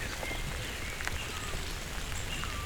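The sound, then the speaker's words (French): Light raindrops patter softly and steadily onto surfaces on the Cagir forest road overlooking a valley, a faint, even wash of small drips with occasional slightly louder taps and no voices. “Et ces gouttelettes de pluie.”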